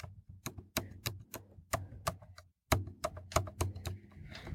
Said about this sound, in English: Okay. He's typing. Uh-huh, yep. Just a lot of letters.